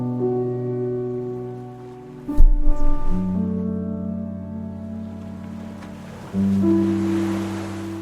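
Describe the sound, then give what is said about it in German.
Soft, steady rush of ocean waves washing onto a sandy beach at sunset, blended with a sustained, droning musical pad; a louder surge swells near the middle and again toward the end, with no voices. “Spürst noch einmal das warme, goldene Licht der untergehenden Sonne auf deiner Haut, hörst das Rauschen des Meeres.”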